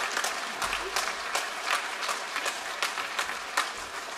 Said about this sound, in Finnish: Hyvä. Aplodit.